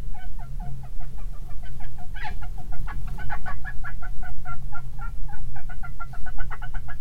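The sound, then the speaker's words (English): Rat calls recorded with Deep Squeak and slowed down into the audible range come as a rapid, uneven string of short, squeaky chirps, almost like clucking or gobbling, over a steady low rumbling hum. “So this is a rat noise dropped, all like slowed down quite a bit to be within our range of hearing.”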